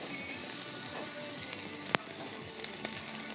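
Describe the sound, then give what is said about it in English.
Burgers and sausages sizzle on a barbecue grill in a steady, dense hiss of crackling fat, with a sharp pop breaking through midway and a few smaller snaps after. No one speaks. “Burgers and sausages, and that's it cooking.”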